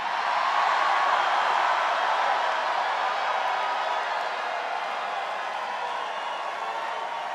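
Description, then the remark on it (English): A large crowd roars and cheers in a steady, dense wash of noise that holds at an even, fairly loud level for several seconds, with no distinct voices standing out. “By the way, I wish the cameras would get this crowd. This crowd is incredible.”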